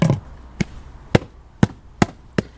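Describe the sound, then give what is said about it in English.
An Irish Water water meter's casing and lid being fitted back into place: six sharp, hard knocks and clunks, fairly loud and a little uneven in spacing, with no talking. “So now I'll just put the casing back on and the lid back over.”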